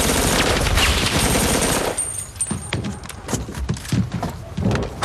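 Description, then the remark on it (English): A dense, roaring burst of automatic fire from an AK rifle shooting at a parked car gives way to a run of separate sharp shots cracking at an uneven pace, loud, with no voices. “Captain America shooting a parked car.”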